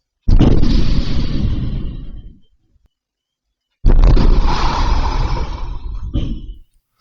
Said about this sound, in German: Zwei Explosionen innerhalb von einer Minute. Erst die Front. Und dann der Automat. Die Explosionsgeräusche, die spielen wir jetzt auch einmal ganz kurz ein.